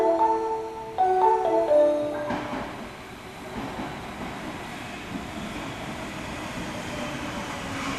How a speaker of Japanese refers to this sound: 2番線に千里中央行きが到着します。危険ですから白線の内側でお待ちください。